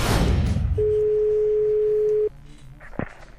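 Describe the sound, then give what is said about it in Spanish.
A single steady, mid-pitched telephone ringing tone from a phone call being placed lasts about a second and a half, then stops, followed by a brief click like a line picking up. “Vamos a ver, vamos a llamar.”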